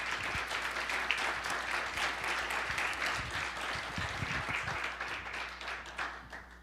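Sustained audience applause for three speakers, a dense crackle of many hands clapping steadily and fairly loudly for several seconds, with no voices standing out and a slight tapering near the end.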